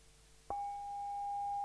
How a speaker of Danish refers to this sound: Det betyder egentlig, at når du slår på en stor klangskål, så har det en rigtig dyb tone. Okay. Jeg har lige en her. Den er, mm-hmm, lige, jeg har lånt af dig.